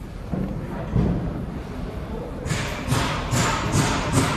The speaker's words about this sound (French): Voilà, vous entendez les coups de marteau déjà.